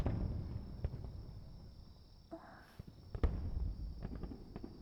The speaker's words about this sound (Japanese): 花火がこんなに綺麗って思ったのは初めて。